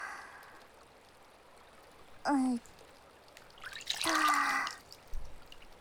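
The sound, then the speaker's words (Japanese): A natural-stone whetstone that had been soaked in river water is lifted out, water dribbling and splashing off it in two short bursts, with a faint drip afterward against a quiet outdoor background. “川の水に砥石つけてあったのね。”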